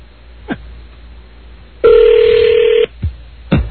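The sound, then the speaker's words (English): A telephone number is dialed: one loud, steady electronic tone holds for about a second, with a few brief soft clicks before and after it. No one speaks. “Just wait for one of the drunkards to pick up the phone again.”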